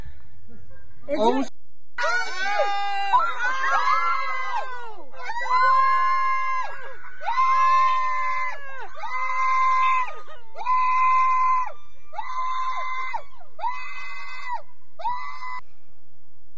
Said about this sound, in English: You can hardly blame the bear for running away. If I was a dude in the house and a lady was yelling like that repeatedly, I'd be running right beside the bear.